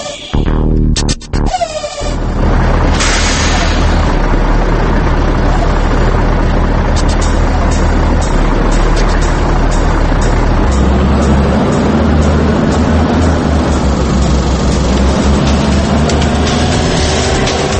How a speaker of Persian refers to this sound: و اما ماشین‌های سنگین و صنعتی.